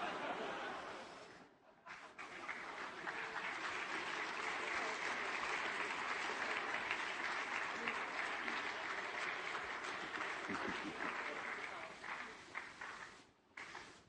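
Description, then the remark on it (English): A crowd at a wedding ceremony claps steadily and loudly for over ten seconds while waiting for midnight, a dense, sustained patter of many hands with a brief dip near the start and a fade just before the end. “Just keep clapping until midnight.”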